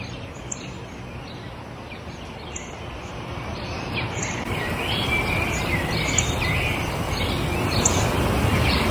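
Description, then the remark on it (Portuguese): A sparrow chirps in short, repeated bursts, fairly faint, over a steady outdoor wash of low rumbling noise that grows slightly louder toward the end. “O que é aquilo? É um pardal.”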